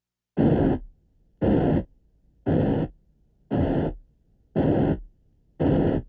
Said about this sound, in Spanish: Ruido blanco es el sonido que puede usted escuchar en su radio FM cuando no se encuentra en una estación. Esto es ruido blanco.